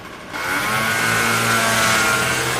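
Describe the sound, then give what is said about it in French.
A loud, buzzing motorbike engine drones in street traffic, revving steadily with a raspy, sputtering edge and no voices, the noise swelling after a brief quieter start. “Circuler à vélo entouré de bus, de camions, de deux roues pétaradant peut faire peur, d'autant que le nombre d'accidents augmente.”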